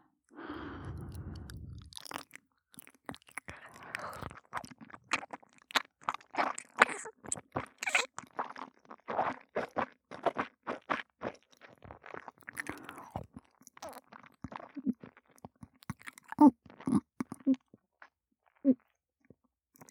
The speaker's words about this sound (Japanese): 見てください、あなた様。玉のようになったドロッドロのラーメンがこんなにしっかり咀嚼しながら飲み込んでまいりますね。